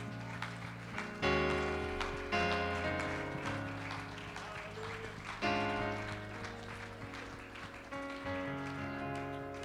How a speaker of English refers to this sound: If you believe that the Lord is going to answer your prayer, give him a hand clap of praise.